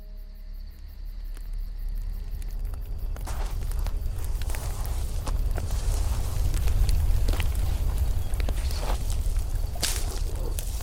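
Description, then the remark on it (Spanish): Wind blows steadily at night around a campfire with a deep, rumbling roar, joined by scattered sharp snaps and crackles that stand out now and then. Nobody speaks. “Oigan, chicos, ¿oyeron eso? Solo es el viento,”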